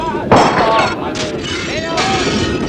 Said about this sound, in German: Ihr Geschrei hallte durch die Wagen, Fenster wurden eingeschlagen, Schüsse fielen.